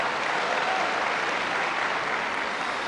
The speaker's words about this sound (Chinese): 谢谢朋友们的掌声。 哎， 如果说您这个掌声再热烈点会更好，谢谢。